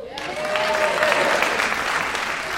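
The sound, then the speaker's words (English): An audience at Leanne Morgan's stand-up comedy special I'm Every Woman claps steadily for a couple of seconds after being asked whether any teachers are there, a dense patter of many hands at moderate volume, with a faint voice or cheer rising briefly underneath near the start. “Okay, we didn't hear them clap big because they raised their hand.”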